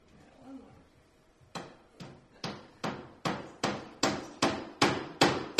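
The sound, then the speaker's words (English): A person hammers nails: about eleven sharp, evenly spaced hammer blows that grow steadily louder, after a brief stretch of faint low murmuring. “Don't bother, she's doing nails. Don't aggravate somebody with a hammer.”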